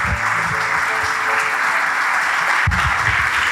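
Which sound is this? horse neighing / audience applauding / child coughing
audience applauding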